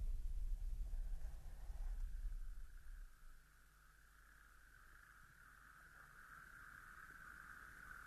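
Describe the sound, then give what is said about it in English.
A steady chorus of toads trills continuously from a pond at the edge of a sand dune, building slightly over time, with low wind rumble at the start and no voices. “Yes, there's a good population of toads just calling in the pond.”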